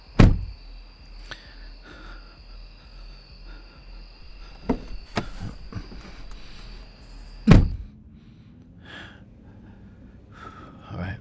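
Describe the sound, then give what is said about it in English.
A car door slams shut outdoors, then slams again several seconds later, with lighter latch clicks in between, over a steady high chirping of insects and some soft breathing; someone is getting the door for another person. “Let me get the door for you.”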